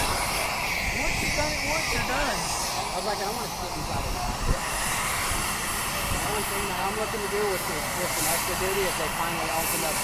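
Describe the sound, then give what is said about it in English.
Two jet aircraft engines roar steadily and loudly at full speed with a thin high whine on top, a constant rumble filling the scene while muffled voices murmur underneath; the engines are engaged and the pilot is about to take power. “Both jet engines are up to speed, and he's about to take power here.”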